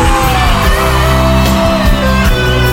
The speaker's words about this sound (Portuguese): Quem tá apaixonado dá um grito.